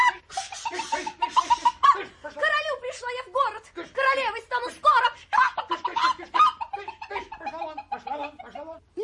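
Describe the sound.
A voice imitates a chicken running about in a palace hall, with a fast, busy run of clucks and squawks that rise and fall in pitch, fairly loud for about nine seconds.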